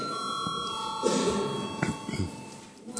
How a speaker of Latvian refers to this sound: Paldies, lūdzu, zvanu.